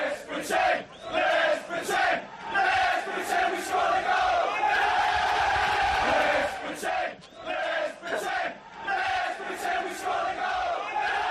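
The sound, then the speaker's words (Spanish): A large football crowd roars and chants loudly and continuously, voices rising in sustained bursts of shouting and cheering. The fans shout as if their team had scored a goal, pretending to score although it has not, with rhythmic swells throughout. “Y gritan como si hubieran marcado un gol.”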